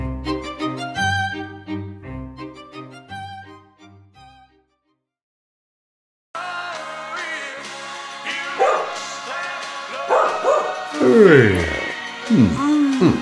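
A dog barks and yelps repeatedly, loud, with some whining pitch sweeps, after a short stretch of music and a brief silence.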